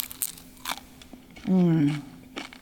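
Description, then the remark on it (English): A few crisp crunches from biting into fried lumpia, hand-rolled egg rolls, spaced apart, with a short appreciative hum from a voice in between the bites. “Ooh, crunchy, sweet, and savory.”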